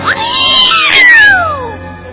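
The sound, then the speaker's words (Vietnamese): A cat lets out a loud, drawn-out yowl lasting about two seconds as it pounces on a mouse and swallows it, its pitch sliding up and then falling away. It is harsh, with no talking around it. “Tội nghiệp chú chuột xấu số, khi chữ Hết Sạch còn chưa kịp thoát ra khỏi miệng thì chuột đã bị mèo vô lấy và nuốt sạch.”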